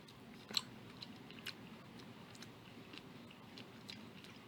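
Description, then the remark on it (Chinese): Soft, irregular chewing sounds of someone eating their first bite of food, with occasional brief crunchy clicks over a low background hum; no one speaks. “我即系啱啱食咗第一啖，我意思 系， 可能仲未嚟啊！”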